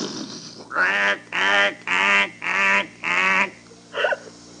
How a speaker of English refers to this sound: You never seen ducks before? Huh? You never seen a duck before? No. Look out, duck!